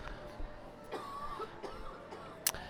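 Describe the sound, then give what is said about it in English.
A few soft, scattered coughs in the background from people getting over colds and allergies in Central Florida, short and muffled, spaced unevenly over a few seconds against a faint murmur of room sound. “The lovely coughing in the background as we get over colds and allergies here in Central Florida.”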